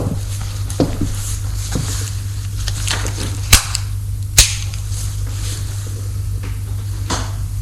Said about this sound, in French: Éclair.